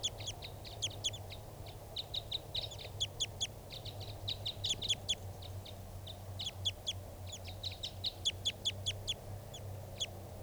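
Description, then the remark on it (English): A wild male and female bird pair, perched low in a small pine tree, call back and forth in quick bursts of short, high chirps and trills, mostly the male calling with the female responding, repeating steadily throughout over a low, constant background hum. “Mostly the male calling here. Females are responding.”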